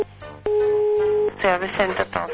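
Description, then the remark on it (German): A phone rings once with a steady electronic tone lasting under a second, clear, an incoming call placed from a mobile phone, and then a voice starts talking right after it. “Darf ich Sie ganz kurz mit meinem Handy in der nächsten Sekunde anrufen?”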